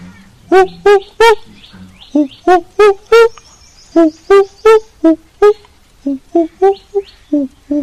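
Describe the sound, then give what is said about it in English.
A voice imitates a cuckoo's call, as Krishna does in the story while waiting in the courtyard outside Radharani's room in Yavat, repeating loud, hooting two-note coos over and over in a steady rhythm, clear with brief pauses between phrases. “And he started imitating the sound of a cuckoo.”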